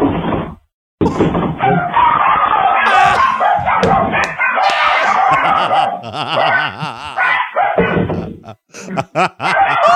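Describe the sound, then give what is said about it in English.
Chihuahuas bark and yap in a loud, nearly continuous high-pitched chorus, with wavering, howl-like yelps rising and falling midway before a few final sharp barks. “my girlfriend rescues chihuahuas, so we're going to be going to Vegas on Saturday. So how about I just bring you one, dear?”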